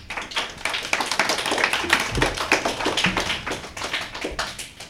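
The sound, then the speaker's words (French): An audience applauds CE2 pupils on the school radio of école Paul Langevin during the game Bubble Game, steadily for about five seconds, many overlapping hand claps forming a dense, even patter with no voices. “On peut les applaudir.”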